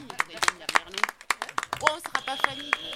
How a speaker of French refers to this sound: Oui, on peut applaudir pour les premiers points de l'équipe des Loseureuses.